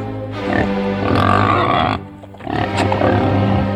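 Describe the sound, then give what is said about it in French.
Loud grunting from a phacomocher, a suid of Provence found around the village of Espigoule in the Var, France: two long rough bursts of snorts and grunts separated by a short pause, with no talking. “Le phacomocher est un suidé provençal, notamment autour du village d'Espigoule, dans le Var.”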